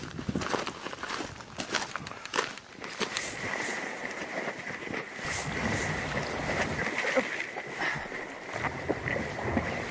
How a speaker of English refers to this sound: We've got a boat waiting for you at the bottom, and we're going to paddle across, and then we can again go into the park.